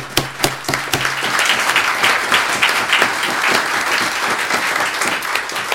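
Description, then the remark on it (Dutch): An audience breaks into sustained applause to thank the BOAs and municipal officials for their efforts, dense overlapping clapping that holds steady and loud for several seconds after a few sharper claps at the start. “Ik denk dat het wel op zijn plaats is om ze toch even heel hartelijk bedanken en daar een applaus voor te geven.”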